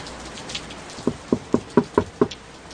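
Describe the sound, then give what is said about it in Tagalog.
Heavy rain hisses and patters steadily outside a house throughout, while a run of six even, moderately loud knocks on the house door sounds in a regular rhythm partway through. No one speaks. “Pumapasok na ang tubig ulan mula sa nakabukas na bintana ng bahay namin.”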